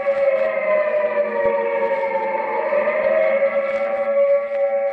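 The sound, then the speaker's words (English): A civil defense air raid siren wails steadily and loudly for the whole stretch, its sustained layered tone holding with only slight rises and falls, no voices present. “The siren is a musician of no value, knowing only one tune, which each time played is a disturbance of the peace.”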